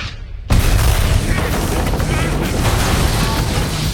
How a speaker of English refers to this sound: Again, Darius swerves and the shell takes out a helicopter.